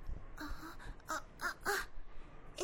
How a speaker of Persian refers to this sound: زاغ هست.